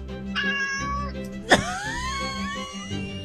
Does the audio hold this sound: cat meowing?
yes